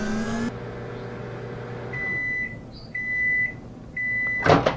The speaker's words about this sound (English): We'll place the chocolate inside the microwave. Set the timer for 30 seconds. And start it.